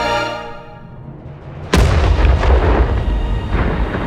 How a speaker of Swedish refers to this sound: Och hela tornet exploderar med en smäll som måste ha ekat i hela Göta älvdalen. Toppen av tornet fullständigt lyfts av och svenskarna som befinner sig i tornet ordagrant flyger ut.